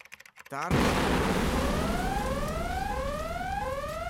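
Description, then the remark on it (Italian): After a brief moment with a faint voice, a Volkswagen Crafter van parked in front of the entrance of a government building tower explodes with a sudden, loud blast, then a heavy, sustained roar continues, layered with rising whistling tones. “È esploso un furgone.”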